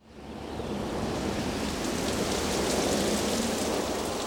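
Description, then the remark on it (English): Heavy rain pours down on a concert in a dense, steady hiss, fading in quickly and then holding loud and constant across the whole stretch, with no voices over it. “Now it's raining heavily.”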